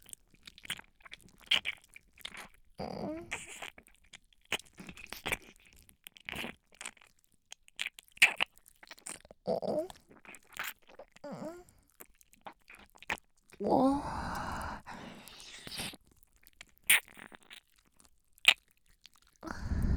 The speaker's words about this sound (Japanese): ここをねっとり下を押しつけて。食べちゃうみたいに舐め回して。